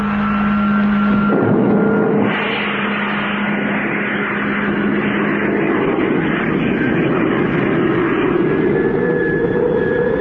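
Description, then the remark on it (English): A spaceship's rocket motors ignite after a countdown and a low steady hum, building into a loud, continuous roar that holds for several seconds with a slowly rising whine. No voices. “Stand by for firing. In 5 seconds. 4, 3, 2, 1. Contact!”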